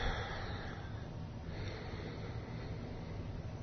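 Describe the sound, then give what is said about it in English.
A single long, steady breath drawn in slowly through the nose, soft, with a faint airy rush and no talking. “So once again, we just breathe.”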